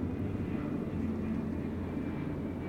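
A steady airplane engine drone fills the cabin, a constant low rumble with a faint high whine, as a plane taxis after an emergency landing at a small domestic airport 3 hours south of the American border. No one speaks.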